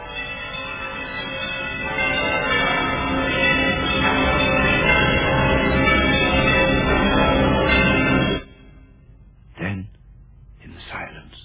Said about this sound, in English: It swung so softly at the outset that it scarcely made a sound. But soon it rang out loudly, and so did every bell in that huge, empty house.